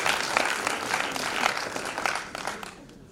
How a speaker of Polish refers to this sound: Wielkie brawa!